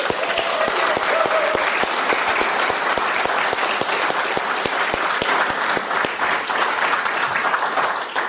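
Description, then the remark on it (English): Sustained applause from an audience for the evening's speakers fills the whole stretch, dense and steady clapping from many hands at a fairly loud level, with no one speaking over it. “Can we give another big round of applause to all of our speakers tonight?”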